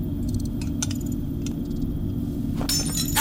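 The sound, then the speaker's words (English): Several light, scattered clinks of crockery over a steady low rumble, then a sharp, bright crash near the end as dishes shatter. “Oh, don't break them! I didn't bring enough for them to get shattered!”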